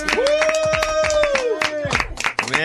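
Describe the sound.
A crowd claps steadily and loudly as Taylor Swift is brought in, with a sustained whoop or cheer rising over the applause and voices mingling in the busy noise.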